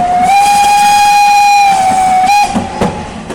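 A steam train whistle blows one long, steady, piercing note for about two and a half seconds over the rumble of a rolling train, then cuts off, leaving clattering wheels and hissing.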